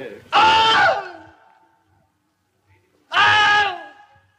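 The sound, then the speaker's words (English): A voice imitates the Wilhelm scream twice: two loud, strained, falling cries about three seconds apart, each lasting under a second, with silence between them. “The Wilhelm scream. Yes. A man getting bit by an alligator and he screams.”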